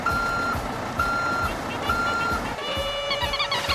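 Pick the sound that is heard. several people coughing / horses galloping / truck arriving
truck arriving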